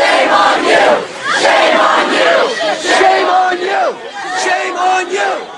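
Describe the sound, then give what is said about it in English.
A crowd of protesting students holding a sit-in on the UC Davis campus, where students were pepper sprayed, shouts together in loud, rhythmic bursts of "shame", many voices rising and falling in a repeated chant that continues without a break. “Online video shows students at UC Davis, who had earlier tried to set up an encampment on campus, shame being pepper sprayed at close range shame while holding a sit-in.”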